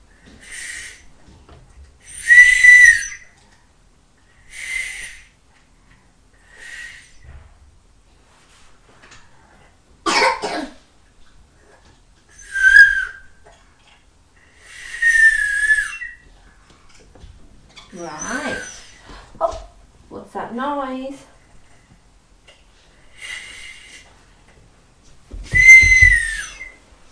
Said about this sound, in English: blowing the whistle.